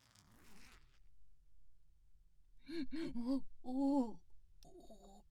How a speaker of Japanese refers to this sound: チャックを開けて。